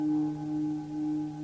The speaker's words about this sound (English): There's the high tone.